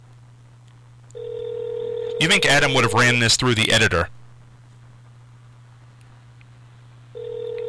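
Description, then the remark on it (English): A telephone ringback tone purrs over a line with a low steady hum as a call is placed to the Geraldo show in Cleveland, one long ring, then a man talks briefly, and another ring starts near the end. “This is ringing.”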